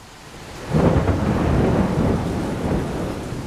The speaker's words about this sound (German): Wir sind in Rio de Janeiro. Es ist heiß und regnet in Strömen.